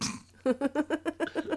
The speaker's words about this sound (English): I just burped.